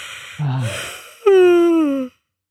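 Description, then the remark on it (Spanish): A single yawn: a breathy intake of air followed by a long, voiced, slowly falling groan that cuts off abruptly, with no talking around it. “Es como cuando bostezo.”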